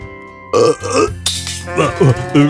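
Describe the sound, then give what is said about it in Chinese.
A long, loud, croaking burp after drinking cola, a carbonated drink, rolls out in several voiced pulses over about two seconds, its pitch wobbling low and gravelly, with no talking around it. “吓我一跳，我还以为你要吐了。你喝这种碳酸饮料也不太好。”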